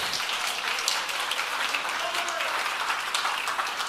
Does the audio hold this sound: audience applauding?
yes